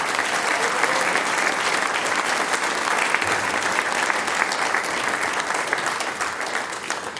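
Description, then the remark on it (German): Sustained, dense applause from an audience for the six-man band, a steady roar of many hands clapping at an even loudness throughout, with no speech standing out. “Und die …, die 6 Herren, kriegen natürlich auch noch einen großen Applaus.”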